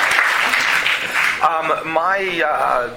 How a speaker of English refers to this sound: But, are they going to clap for that? Yeah, they can clap.